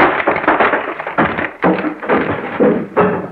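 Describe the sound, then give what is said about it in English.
A person bumps into a door while trying to walk right through it: a run of loud, dull thuds and rattling knocks, with several sharp jolts spaced unevenly over a few seconds, and no voices. “I'm going to try walking right through the door like my dad does.”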